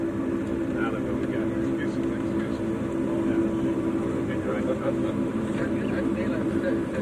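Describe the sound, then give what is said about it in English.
A steady, droning airplane engine hums loudly and evenly throughout, a constant low rumble with a tonal whine layered on top and no breaks or changes in intensity. “Yeah, that plane noise.”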